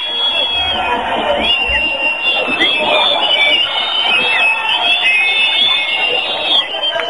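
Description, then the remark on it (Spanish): A large protest crowd at a demonstration outside shouts and chants in a dense, unbroken roar of many voices, heard live through a telephone, thin and band-limited, staying loud throughout. “Mira, queríamos que escucharais el sonido de la manifestación de fuera, ya que por las paredes no podéis.”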